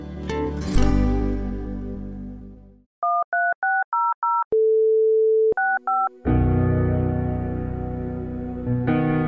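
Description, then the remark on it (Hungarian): A run of quick two-tone keypad beeps, then a steady telephone dial tone, followed by two more keypad beeps, set between swells of music, in a Mária Rádió spot about donating to the station by phone. “A 13600-as telefonszám felhívása után a 65-ös mellékbeütésével tudja támogatni a Szüzanya rádióját.”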